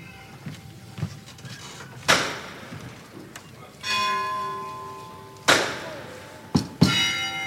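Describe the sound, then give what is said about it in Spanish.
A metal knocker hammer strikes a procession float several times at uneven intervals as the float nears the doors leading to the street, each sharp clang leaving a bright, bell-like ring over a low crowd murmur, with the last two blows coming in quick succession. “Vuelve a sonar el martillo.”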